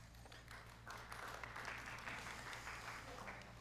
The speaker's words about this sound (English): Your reading was clap-worthy, apparently.